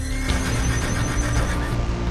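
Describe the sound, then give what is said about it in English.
A black horse neighs loudly, a sustained, quavering whinny lasting a couple of seconds over a dense, rumbling background. “I give you this black horse to sit atop.”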